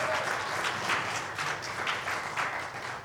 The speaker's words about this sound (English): If you would, let's give DJ a round of applause and Lola as well.